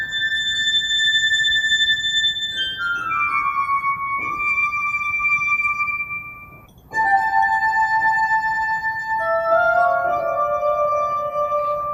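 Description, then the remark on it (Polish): Glass harp music played by a duo, a married violinist and trumpeter, with pure, sustained ringing tones that shift through a slow melody, notes overlapping and shimmering, steady in loudness apart from a brief dip midway. No voices. “Zwieńczeniem tego szczęśliwego dla nas wieczoru był występ duetu …, małżeństwa skrzypaczki i trębacza, które podjęło nową ścieżkę muzyczną, prezentując muzykę na szklanej harfie.”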